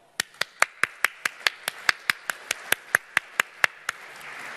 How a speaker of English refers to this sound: So just so we could get it on record, could we please just give him a round of applause?